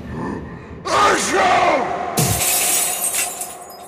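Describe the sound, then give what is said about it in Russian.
A wailing, shouting voice leads into a single loud shattering crash as a man smashes a doll against the floor, its bright fragments ringing and scattering for a second or so afterward. “Он подбежал к ней и разбил ее об пол.”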